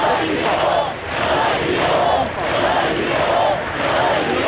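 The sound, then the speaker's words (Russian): A large crowd at a mourning rally in Barcelona chants the slogan "We are not afraid" ("Нам не страшно") in unison, repeating it over and over in a steady rhythm, loud and continuous, with each phrase rising and falling about once a second. “Собравшиеся скандировали: «Нам не страшно».”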